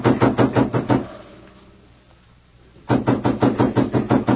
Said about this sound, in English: A moment later, footsteps sounded across the veranda, and someone knocked sharply on the door.